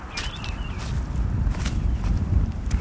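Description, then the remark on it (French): Steady wind gusts rumble and buffet across a clifftop above Saint-Denis at 7 a.m., on the cliff overlooking the coastal road. The wind makes a constant low roar with some microphone buffeting, and faint chirps of birds come from high above. “Il y a du vent parce qu'on est tout en haut de la falaise.”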